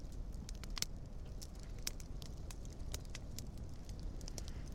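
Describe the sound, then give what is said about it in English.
A campfire in the Arizona desert crackles steadily, sharp irregular pops and snaps scattered over a low, continuous rumble of burning wood, with no voices. “Right now, we are in front of a campfire in the Arizona desert.”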